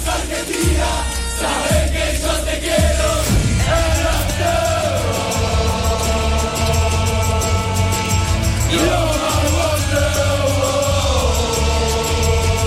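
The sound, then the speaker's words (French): A huge stadium crowd roars and yells continuously at full volume after Argentina's third goal in a World Cup match, a dense, sustained wall of cheering and shouting with no pauses, loud throughout. “Et le troisième but pour l'Argentine. Martinez s'invite à la fête.”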